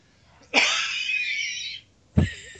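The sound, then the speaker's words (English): A forced, raspy cough from one man: a strained hack drawn out for over a second, then a short sharp second burst after a brief pause. No talking. “Oh, I got a cough coming. Uh oh, old man cough.”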